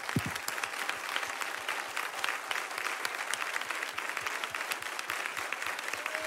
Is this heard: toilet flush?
no